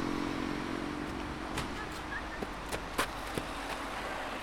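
Steady low rumble of road traffic with a car engine droning by, a few sharp clicks and taps scattered over the continuous background noise.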